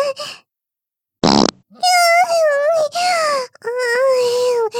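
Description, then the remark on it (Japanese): A single short, loud fart bursts out after a moment of silence, followed by a woman's high, drawn-out moaning sounds that continue to the end. “スカンク娘だけど、こんなにおならするの初めてだし、こんなに気持ちいいのも初めて。”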